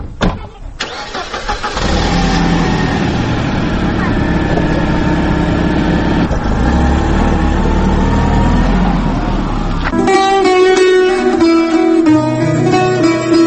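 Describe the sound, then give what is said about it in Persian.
A car engine starts and rumbles steadily, loud, as two people get into the car and it pulls away in a radio drama, then gives way to music near the end. “می روند معلم حسین و فاطمه به ماشین سبوکراو سوار می شوند.”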